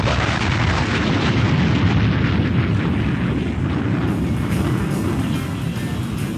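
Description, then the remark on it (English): A violent storm roars without pause, a loud, dense wall of deep rumbling and booming crashes that barely lets up for the whole stretch, shaking everything around, with no voices. “Boy, that was quite a storm. Yes, it was, Jerry. It just shook everything all around here.”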